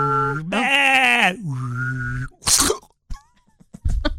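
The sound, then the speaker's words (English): A voice mimics a sheep, giving a couple of drawn-out, wavering bleats, then a sharp sneeze-like burst of breath and some brief clattering sounds, fairly loud. “Like you're driving down the road and there's basically an imploded sheep. I didn't like that sound.”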